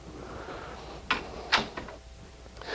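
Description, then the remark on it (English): A door is handled: two sharp clacks about half a second apart, a few softer rattles of the latch, then a rising rush of noise as it swings. “Satan puts those doors in our lives every day. Come on. Try this door.”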